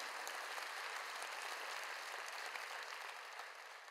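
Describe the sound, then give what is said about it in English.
Sustained applause from a large group clapping in praise of the Lord, many hands at once in a dense, steady wash of sound that holds evenly for several seconds before easing slightly. “Give the Lord a hand clap of praise.”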